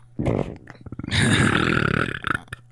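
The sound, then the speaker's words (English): A short croak of a burp, then a long, loud, drawn-out belch, rough and rumbling for over a second before trailing off. “Hey, I'd let you smell my burps whenever you want.”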